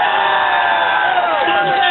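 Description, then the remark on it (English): A crowd of Trump supporters in a growing line of voters in Doylestown cheers and whoops loudly, many voices shouting together in a steady, sustained roar with overlapping high-pitched yells throughout. “Hey, that sounds like a bigger crowd than Mulligan's.”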